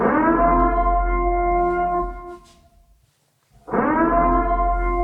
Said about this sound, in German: Also hört euch mal diese Sirene an. Jetzt bin ich gespannt.